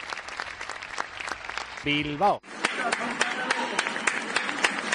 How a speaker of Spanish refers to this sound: Son las 8 en punto de la tarde, las 7 en Canarias. España sale a sus ventanas, a sus balcones para aplaudir.